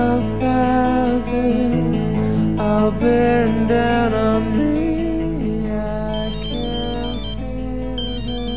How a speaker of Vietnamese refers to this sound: Ai gọi thế nhỉ? Mắt mình sao thế này, nhìn vào màn hình điện thoại mà chẳng thấy chữ gì cả.